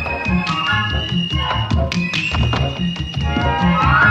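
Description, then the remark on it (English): Brisk, rhythmic flamenco-style clapping and foot tapping by two dancers on the hull of an upturned boat: sharp claps over a steady run of low, hollow thuds, with sustained musical tones humming underneath throughout. “They clap and tap like flamenco dancers.”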